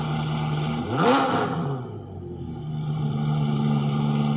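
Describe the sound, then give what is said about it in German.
A car engine revs up sharply, its pitch climbing fast for about a second before settling into a steady, loud drone as the vehicle keeps driving, with no voices. “Ach, diese Freiheit, mit dem Auto durch die Republik zu rasen, das kann nur noch getoppt werden von einem Privatjet.”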